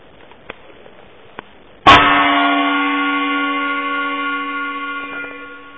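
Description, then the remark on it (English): After a moment of faint hiss, a gong is struck once, sharply and loudly, then rings on with a rich shimmer of sustained overtones that slowly fades over several seconds. “With that reference, bang a gong there”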